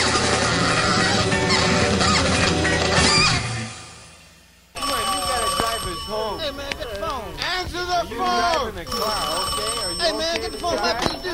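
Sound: telephone bell ringing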